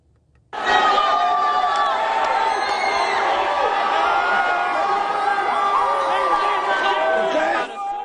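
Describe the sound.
A large crowd of Duke students cheers and whoops, celebrating the Blue Devils' 68-63 national championship win over Wisconsin. A dense, steady roar of overlapping shouts and voices holds at full volume for about seven seconds before cutting off.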